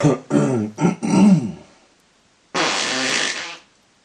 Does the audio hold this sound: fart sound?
yes